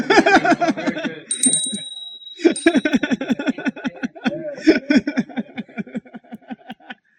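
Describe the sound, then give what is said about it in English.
A single real bell is struck once and its clear, high ring sustains for a couple of seconds, sounding over people talking that continues before and after the chime, as a Dhamma talk is about to begin. “I have a real bell.”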